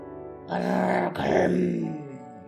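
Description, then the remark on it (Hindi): A deep, guttural growl rumbles loud for about two seconds, surging twice in quick succession, sounding like a human voice imitating a snarling creature as it leaps back onto a bridge. “वो गुर्राया और एक छलांग में वापस पुल पर चढ़ गया।”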